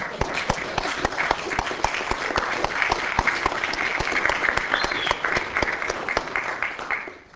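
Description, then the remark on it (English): Steady audience applause at KITP for the event organizers, many hands clapping in a dense, continuous patter with some sharper claps standing out, then tapering slightly at the end. “So let's a round of applause.”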